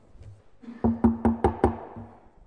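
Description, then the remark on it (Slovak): Five quick, evenly spaced knocks on wood, fairly loud, each with a short hollow resonance, with no one talking. “A keď nemám na čo by som zaklopal, tak možno si zaklopem na hlavu.”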